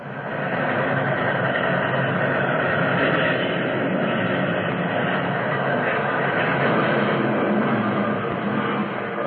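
A train derailing as its rear cars are flung off the tracks: a loud, unbroken roar of grinding metal and rumbling, steady and dense for the whole stretch, with no talking.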